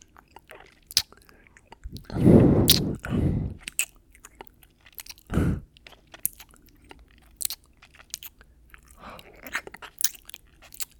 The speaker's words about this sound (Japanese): 耳好きだもんな。息遣い荒くなってきてるじゃん。耳舐めててやるから、さっさとやれよ。